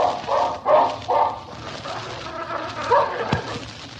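dog growling

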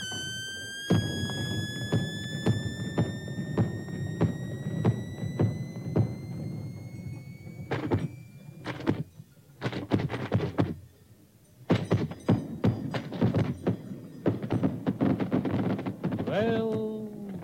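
fireworks exploding

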